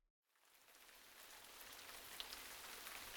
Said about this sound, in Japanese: 気がつくと私は雨の中にいた。